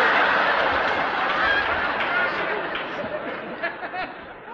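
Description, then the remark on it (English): A dense, noisy chorus of many ducks quacking at once, loud, with overlapping calls that continue steadily for the whole stretch. “Oh, I bet them old ducks is going to be surprised.”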